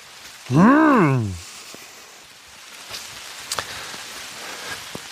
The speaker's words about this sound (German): Leider sind hier so ganz viele Nadelbäume, keine Laubbäume. Nadelbäume schützen, glaube ich, nicht so gut vor Regen. Na, hier ein bisschen vielleicht.